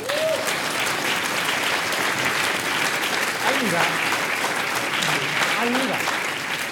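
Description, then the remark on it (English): A crowd claps steadily in a sustained, dense wash of applause, with a few faint voices calling out and rising and falling in pitch over the top of it. “So that's to my round of applause, please.”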